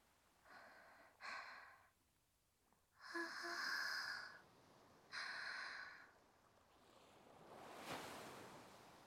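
Soft surf of the sea at sunset rolls in and washes up the shore, with a fuller swell near the end, while someone's heavy breaths puff in short bursts after running toward the water.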